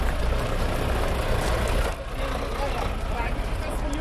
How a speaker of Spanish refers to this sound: El Cabo sale de su posición con sus dos compañeros porque va a reconocer uno de los lugares que necesita ayuda tras el terremoto. Por eso se sube a un camión que pertenece al ejército marroquí.